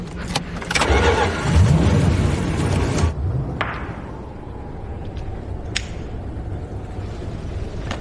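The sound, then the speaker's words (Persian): A car engine, started to warm the car up, cranks and catches with a loud, rough roar lasting a few seconds, then settles into a low, steady idle, with a few sharp clicks scattered over the rumble. “اومدم ماشین رو برات گرم کنم.”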